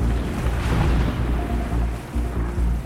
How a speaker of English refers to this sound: It's a few hours before dawn on Sicily's southern coast. The Italian island sits between the toe of the boot on Italy's mainland and the northeast tip of Africa. There's no moon tonight, and on the Mediterranean Sea, a storm is raging.